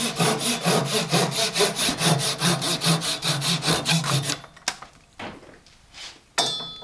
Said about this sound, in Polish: z takiego drewna robimy duszę. Oczywiście tniemy piłą ręczną.